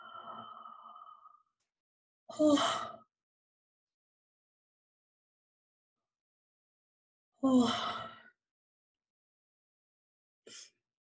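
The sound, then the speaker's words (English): Two breathy, drawn-out yawns, each roughly a second long and separated by a long silence, after a soft sustained tone fades out. A brief faint breath closes it. “Is anybody else yawning besides me?”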